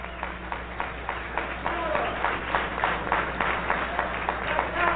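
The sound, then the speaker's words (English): A crowd gives a warm round of applause for Kwame Ture, clapping steadily for the full five seconds, a dense, crackling patter of many hands at an even loudness, with a low hum underneath. “Brother Kwame Ture, let's give him a warm, warm round of applause, Brother Kwame Ture.”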